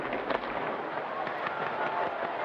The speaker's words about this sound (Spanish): Y comienzan en este instante los fuegos artificiales.